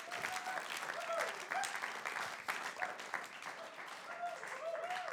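An audience claps steadily for about five seconds to welcome a speaker up, a dense, even wash of applause with a few brief high whoops or whistles rising over it.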